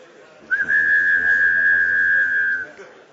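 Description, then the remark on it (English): A person whistles two tones at once, the way people whistle in Chickasha, one long, loud, steady note for about two seconds after a quick upward slide at the start, with only faint room noise underneath. “That's the way we whistle in Chickasha.”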